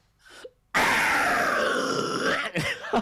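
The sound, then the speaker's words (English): A guttural 'tunnel throat' style scream, performed on air, erupts after a brief breathy intake and holds loud and raspy for about two seconds, with a gritty, growling texture before cutting off in a short ragged burst. “Yeah, yeah, because he does like the tunnel throat kinds of screams, like the fucking how do you go, like yo, some shit like that.”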